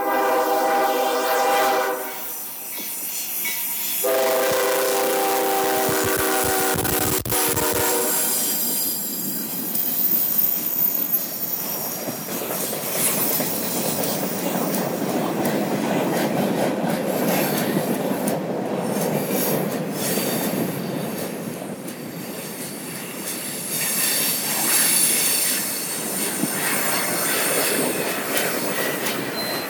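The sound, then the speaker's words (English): A slow freight train rolls past a crossing with its gate down, beside a running trail, a horn sounding early on over a sustained rumble of wheels and cars, with metallic squealing and steady rolling noise continuing throughout. “Here it comes. Sounds like a slow freight.”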